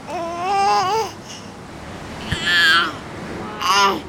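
A seven-month-old baby at a cave tour site, trying to grab the microphone, babbles in three short bursts of high, wavering vocal sounds, separated by pauses, over a steady soft background hiss, with a small knock in between.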